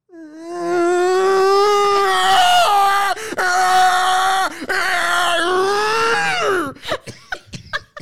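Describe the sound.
A voice imitates the screech heard inside an underground train while passengers try to talk: a long, loud, strained whine held for about six seconds with two brief breaks, then a few short clattering clicks.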